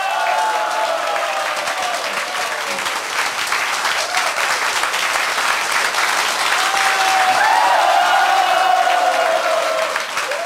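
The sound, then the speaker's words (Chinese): A large audience at a talk applauds steadily for about ten seconds to encourage Mr. Good (古德先生), a dense, continuous wash of clapping that swells slightly toward the end, with faint scattered voices mixed in. “他说服了安东尼罗宾来做一个不相干的行业，要不要给古德先生热烈掌声鼓励一下？”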